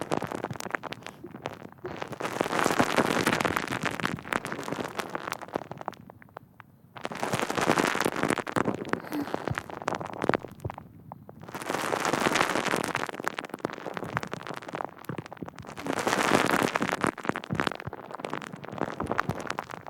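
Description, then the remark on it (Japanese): Foam bubbles crackle and pop on skin in a dense, fizzy hiss, swelling in four separate bursts of a few seconds each with short quiet gaps between. No one speaks. “泡がパチパチって弾けて、肌に浸透していくのを感じてね。”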